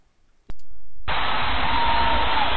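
A few seconds cut from a music record: a couple of sharp clicks, then a sudden, steady wash of loud crowd roar that holds without a break to the end, dense and even with a faint sustained tone running through it.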